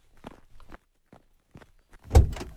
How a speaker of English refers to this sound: No, please, I can open my own door. No trouble, my lady.